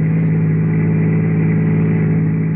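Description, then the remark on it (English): A steady, continuous engine drone like riding inside a moving car late in the evening out on the Pacific Palisades, a low humming tone holding at an even, fairly loud level with no voices and no breaks. “So late that evening, I found myself out on the Pacific Palisades with Henry Eichelberger, boy, in the back of the car.”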